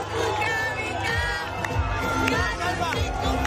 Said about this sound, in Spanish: Una plaza de Callao en el corazón de la ciudad, enloquecida cuando Alexia Putellas levantaba la copa desde el autobús.